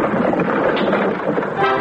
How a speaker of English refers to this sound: The streamlined train.